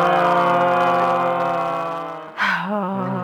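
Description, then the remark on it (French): A single voice imitates a fire engine siren, holding a bright sustained tone, then after a quick breath sliding up and down in wavering pitch sweeps. “On va faire comme la sirène des pompiers.”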